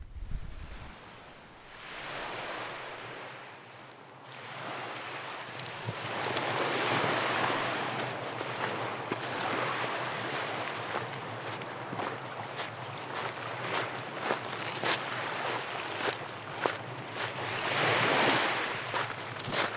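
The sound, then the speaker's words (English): Waves wash steadily onto an empty lakeshore beach under power lines, a broad continuous hiss of surf with repeated small splashes and breaking crests, with some wind rumble and no voices. “Let's walk a little down this empty beach under the power lines.”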